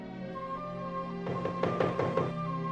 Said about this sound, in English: Philip approaches the darkened cottage. The prince dismounts. He stops at the door and straightens his hat. He looks back at Samson, who nods encouragingly. Philip knocks.